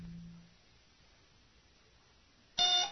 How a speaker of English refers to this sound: The alarm buzzer squawked wildly in Tendra Rezant's ship